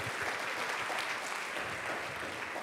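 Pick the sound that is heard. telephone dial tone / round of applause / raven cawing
round of applause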